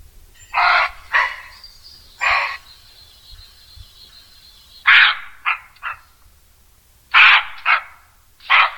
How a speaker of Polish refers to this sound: I coś, co dzieci bardzo, ale to bardzo uwielbiają, to szczekanie koziołka sarny.